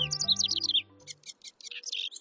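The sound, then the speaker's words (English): A house wren sings a rapid, bubbly cascade of high chirps and trills, clear, with a low sustained musical tone underneath during the first second before the song continues alone. “There may be no busier bird during the nesting season than a male house wren, because just a day or so after migrating back north from the tropics, he claims a territory and sets to work checking out potential nest cavities.”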